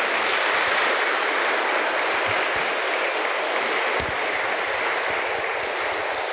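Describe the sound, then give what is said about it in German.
A church audience applauds two musicians who played at the service with steady, dense clapping that holds at an even, fairly loud level for the whole stretch, blending into a continuous rushing patter with no voices. “Vielen Dank, vielleicht können wir ihnen sogar einen Applaus gönnen.”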